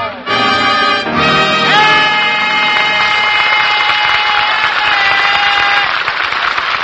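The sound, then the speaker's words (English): The Abbott and Costello Show studio audience in Hollywood applauds as Bud Abbott and Lou Costello are introduced. Dense clapping and some cheering run the whole way through, with a bandleader's brassy band fanfare playing loudly over it. No one speaks. “Stop that noise.”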